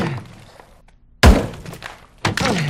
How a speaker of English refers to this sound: Dell stands in the center of the basement. The wall is covered in holes. He raises the hammer and strikes the wall again.